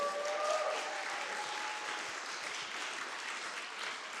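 A crowd applauds steadily for several seconds, a dense wash of clapping at even loudness, with a few faint whistles or cheers near the start.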